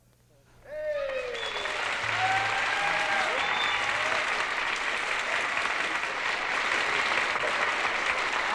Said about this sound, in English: And thanks for that applause.